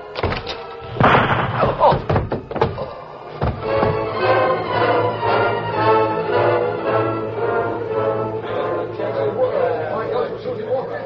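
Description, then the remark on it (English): Several sharp knocks and wooden thumps in the first few seconds as the door of a small house is worked open, then a steady, busy murmur of voices carries on to the end. “Then he knocked out the ashes against the heel of his boot, studied the sky a moment, and opened the door.”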